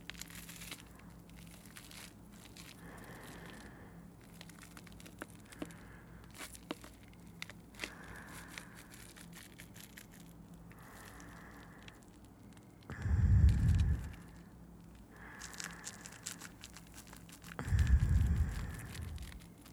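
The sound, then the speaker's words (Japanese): Close, steady crackling and fizzing of foam bubbles popping continuously, with two brief louder low rumbling swells partway through; no voices. “泡がいっぱいね。パチパチって音がして幸せな気分かな。”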